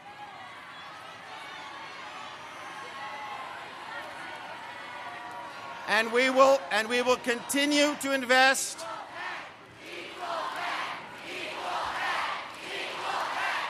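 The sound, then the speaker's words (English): A man speaks over a murmuring crowd about U.S. Soccer's investment in women's soccer, then loud jeers and shouts erupt for a few seconds before settling into a sustained, restless roar of crowd noise. “Okay, so not a satisfied crowd.”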